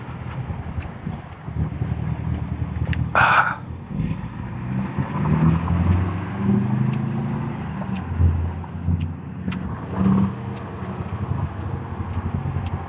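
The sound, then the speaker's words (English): Putty-colored heavy trucks rumble steadily past outside the front of a house in the morning, a deep engine drone swelling and easing over several seconds, with a brief hiss and some wind buffeting the microphone. No one speaks. “Lots of putty-colored trucks moving around. There's trucks everywhere this morning. They're back outside the front of my house again.”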